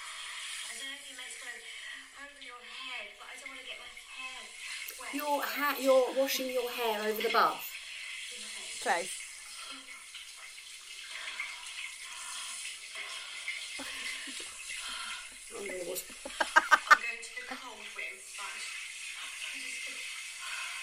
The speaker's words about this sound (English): You're having a cold shower. I'm having a cold shower. You girl. I had a really cold shower. Unfortunately, the showers are electric showers.